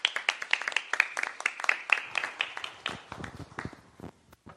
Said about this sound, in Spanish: Yo les pido en agradecimiento a lo que él hace, ¿verdad? Sabemos que Dios es el que le dará a él lo que se merece, pero nosotros agradezcámosle dándole un aplauso por estar aquí con nosotros nuevamente.